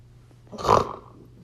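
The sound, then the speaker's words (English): A feral pig lets out one harsh, rasping grunt that swells and fades within about half a second, loud against a quiet background hum. “Feral pigs.”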